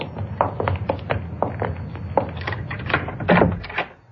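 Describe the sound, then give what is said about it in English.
A key rattles and clicks in the lock of a man's door, followed by a few wooden knocks and thunks as the door is pushed open, with no talking. “There's his door, Jan. It's shut.”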